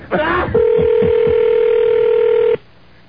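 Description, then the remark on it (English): A phone is picked up with a brief clatter, then a steady, even dial tone hums for about two seconds over a few soft button clicks before cutting off abruptly, as someone calls the front desk. “I'll call the front desk.”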